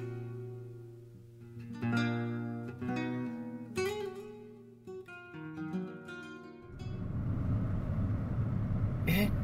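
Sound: road traffic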